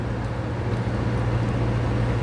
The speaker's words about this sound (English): Oh, big truck. So I just pulled over, there's a nice bit of paved fucking side of the road type stuff. Just pulled off to let the truck go past.